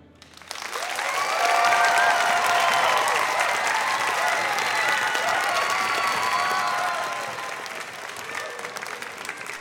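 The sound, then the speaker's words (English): A live audience of kids and grown-ups at a Tanglewood performance with Boston Symphony Orchestra musicians applauds and cheers, a dense wash of clapping that swells quickly, holds steady for several seconds, then tapers off gradually with scattered claps and voices. “from the Boston Symphony Orchestra, an all-star cast, plus, as you'll hear, a fantastic audience of energetic kids and grown-ups.”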